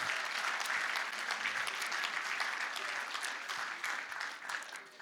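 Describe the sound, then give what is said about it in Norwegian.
An audience applauds steadily, a dense patter of many hands clapping at a fairly strong, even level that tapers slightly toward the end, with no talking over it. “Ja, gi en applaus.”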